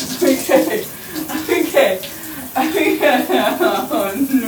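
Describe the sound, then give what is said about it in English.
Shower water runs in a steady hiss throughout, while a person talks over the spray. “I'm gonna use the shower gel with the puff outside of the water stream and just scrub my body of the sweat, and then I'm gonna rinse it all off.”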